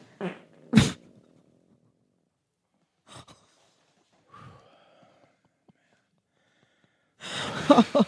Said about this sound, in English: Well, I can tell you exactly what causes that kind of fart. That was horrendous.